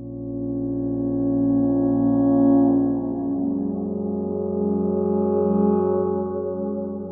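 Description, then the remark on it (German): Sustained synth-like tones ring out through a Roland Space Echo tape echo, their repeats smearing and wavering slightly in pitch and timing as they drift. Steady and fairly loud, with no voices. “Den Space Echo von Roland, den habe ich da immer dran und der driftet ja auch immer so timingmäßig weg und im Pitch.”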